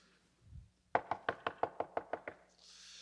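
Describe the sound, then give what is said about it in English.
Nine quick, evenly spaced knocks on a door, crisp, in a steady rapid rhythm, preceded by a soft low thump and followed by a faint hiss. “But then he says, knock.”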